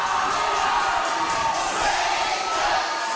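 A huge crowd roars in unison, a dense, steady wall of voices that sounds like thousands singing along together, loud and continuous without a break.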